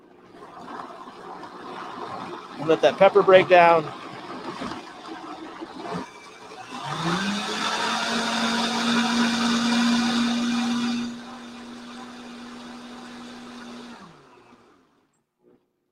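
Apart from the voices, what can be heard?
blender running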